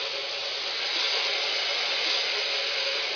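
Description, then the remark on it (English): A steam locomotive hauling a heavy train hisses steadily, a broad, even rush of escaping steam that holds at constant loudness for about three seconds with no voices or other sounds. “We've got a heavy train today. Yeah, I can hear her talking.”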